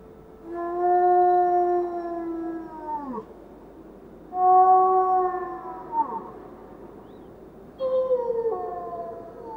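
A female wolf, She-Wolf, howls three times from a vantage point amid swirling snow. Each long, steady, harmonic-rich note slides downward at the end, with short pauses between. The howls are clear, with no talking.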